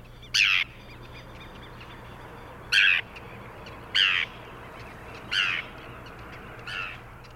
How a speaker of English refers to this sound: So let's now listen to the common call of the forester's tern, which is a simple yet raspy descending cheer.